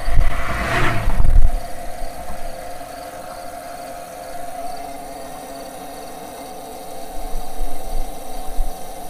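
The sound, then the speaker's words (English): After a brief loud rumbling burst, car hazard flashers give off a steady, unbroken electrical buzz with a humming tone that holds level throughout, swelling slightly near the end. “Anyway, it's the flashers have just totally, the flashers have just gone out into just this buzz.”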